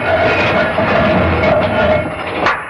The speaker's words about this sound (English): The door to the tomb swung shut. Well, can we open it? No. The counterweights locked it somehow.